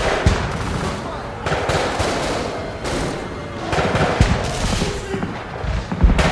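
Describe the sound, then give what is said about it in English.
Rapid bursts of gunfire crackle and pop in quick succession inside a house, loud and reverberant, with sharp thuds punctuating a dense, continuous barrage that fills the whole stretch without pause. “As Chen became aware of this intrusion, another round of gunshots echoed through the house.”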